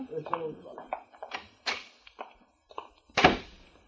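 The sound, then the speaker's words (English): A few soft knocks and shuffling bumps lead into a heavy door shutting with one solid, low thunk that fades quickly, with a brief murmur of voices at the start. “I'll see you to the door.”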